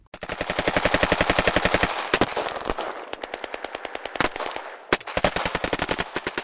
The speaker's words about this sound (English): The paratroopers surprised the interlopers with a hail of gunfire and forced them back. This went on for 2.5 hours, ending when the men were likely out of ammo.